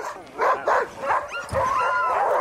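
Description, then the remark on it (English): A chorus of sled dogs in a snowy dog yard howling and barking together as a team departs, a mix of short yips and long rising wails with whimpery tones, steady throughout. “If you wait a minute, the whole yard will howl.”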